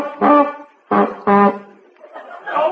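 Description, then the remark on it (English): Three loud, brassy horn honks, sounded to summon someone, each about a quarter second long with a steady buzzing pitch. The second and third come in quick succession, followed by a softer, murmuring tail. “Oh, did you honk for me, Mr.”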